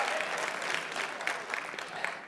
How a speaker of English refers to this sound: I'll give you an A for effort. That's the weakest applause I've ever heard. That's all right. That's all right. Not a big deal. I don't need applause, but thank you.